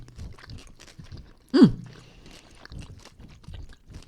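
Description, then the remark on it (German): Crunchy chewing of licorice chocolate with small crispy pearls: repeated crisp bites and mouth sounds, including one sharper loud crunch partway through, continuing in an irregular rhythm without any talking. “Ich steck das mal in den Mund, ne?”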